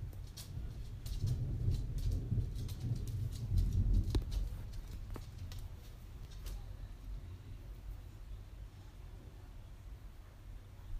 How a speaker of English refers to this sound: I'm more here to record the thunder.